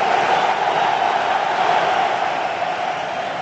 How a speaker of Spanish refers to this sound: ahora la ovación para Aritz Aduriz va a ser tremenda